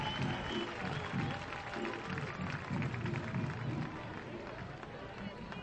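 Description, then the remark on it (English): Steady crowd applause at a Daytona baseball game against the Mets, as a batter hit by the ball is cleared to stay in, a dense wash of clapping mixed with murmuring voices that holds at an even level for several seconds. “He's okay to go, and a applause from the crowd.”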